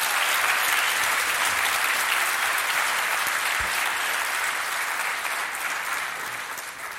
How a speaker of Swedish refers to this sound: Fan bra ni var, ja. Otroligt, applåd. Tack.